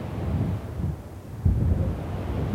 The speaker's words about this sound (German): Der Wind ist wieder stärker geworden und es wird heute wohl nur noch 1 Fähre Richtung Festland starten.